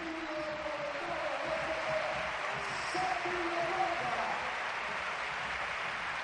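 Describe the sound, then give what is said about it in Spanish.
A large crowd at Sevilla's Ramón Sánchez Pizjuán stadium roars and applauds steadily in an ovation for Manu Bueno as he is substituted against Celta, a dense, even wash of noise with faint sung or chanted tones drifting through, holding loud throughout. “Gran ovación para Manu Bueno.”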